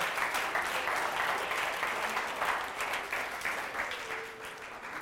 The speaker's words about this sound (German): er bekommt einen riesen Applaus, oder? Er hat es geschafft, oder?